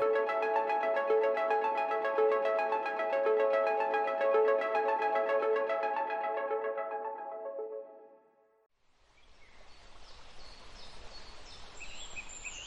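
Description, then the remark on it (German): A sustained, buzzy electronic tone fades out, then birds chirp in a forest in quick high-pitched calls over a steady, rushing background hiss. No one speaks. “Hören wir das Vogelgezwitscher? Ich glaube, wir sind angekommen.”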